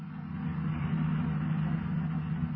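Steady, fairly loud engine drone of police cars driving toward a hill, a low rumbling hum that holds evenly for a few seconds with no voices.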